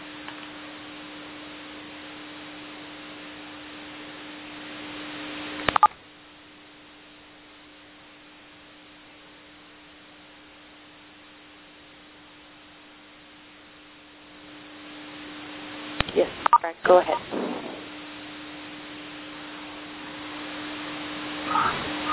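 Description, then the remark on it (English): A few quick phone keypad tones, pressed while trying to unmute the phone during a call, click through a staticky, humming phone line, clustered together after a stretch where the line goes completely silent. “Sorry, I was trying to unmute my phone.”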